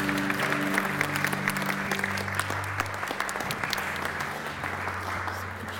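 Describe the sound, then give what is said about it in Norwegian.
Many people clapping steadily for singers and musicians, a dense sustained patter of applause with a low hum underneath, no voices standing out. “Skikkelig klapp til disse her fantastiske sangere og musikere.”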